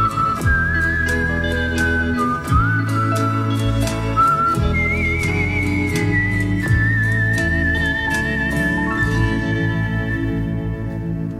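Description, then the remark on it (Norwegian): A clear, melodic whistled tune, whistled by the song's singers, rises and falls over a steady musical backing with bass and rhythmic accompaniment, carrying the lead melody throughout with a slightly echoing quality. “var det som både sang och plystra för oss.”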